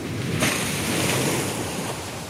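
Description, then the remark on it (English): A sudden, loud rush of splashing water as a marine animal's flipper splashes beside a boat, washing and hissing over steady wind and surf, with no voices. “It's lifting its flipper. It's too close to the boat. Oh, my God. It's going to splash.”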